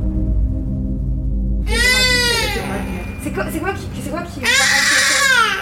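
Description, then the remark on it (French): A baby girl cries loudly in two long, wavering wails separated by a brief pause with shorter sobbing sounds, over a low background rumble. “C'est la respiration ou c'est les pleurs? D'accord, c'est les pleurs qui nous ont inquiétés, c'est pas la respiration.”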